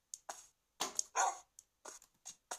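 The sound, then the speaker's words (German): A dog barks in a quick, irregular series of short, sharp yaps and woofs, about eight bursts with brief gaps, some higher and yelpy, with no talking over them. “Da ist mein Hund.”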